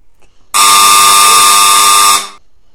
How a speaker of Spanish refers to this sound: Y de repente suena el timbre. ¡Ping!